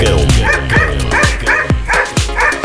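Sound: dogs barking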